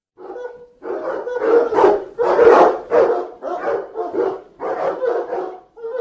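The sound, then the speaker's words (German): A dog barks repeatedly in loud bursts, about seven or eight rough barks in an uneven rhythm with short gaps, some yelping and whiny at the edges, in a neighbourhood with many dogs. “Eine schöne Gegend mit eleganten Häuserblocks, ein paar bewaldeten Parks und eine Gegend mit vielen, vielen Hunden.”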